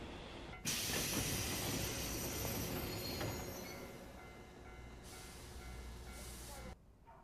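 An electric train rumbles steadily along the rails with a loud, broad hiss and rattle, starting abruptly, gradually easing, then cutting off near the end.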